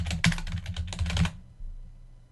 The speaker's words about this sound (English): And after typing that, I'll press tab.